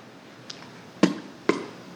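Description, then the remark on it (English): Something splashing into a still pond on a windless morning: a faint plop, then two sharper, louder splashes about half a second apart, each dying away quickly over a quiet, steady background with no talking. “You hear that? Something just hit the water.”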